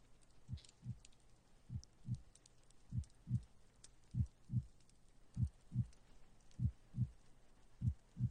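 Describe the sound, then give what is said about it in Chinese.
A slow, steady heartbeat as a man's heart is listened to, each beat a muffled low lub-dub pair repeating about seven times at an even pace, soft with a faint hiss behind it and no talking. “好，我来帮你听一下心跳，放松就好了，不要紧张。”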